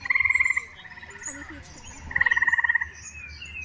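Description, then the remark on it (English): Loud eastern gray tree frog trills: two bursts of rapid, pulsing musical notes, each lasting about half a second, with fainter frog calls continuing in the background. “Here's a recording of eastern gray tree frogs.”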